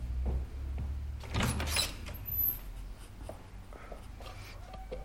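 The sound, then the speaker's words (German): A door is opened and shut as someone leaves to go outside, a short scraping swing followed by a few lighter knocks and clicks, over a steady low hum with no talking. “Ich gehe so lange zu Thomas und Annika vor die Tür und spiele ein bisschen.”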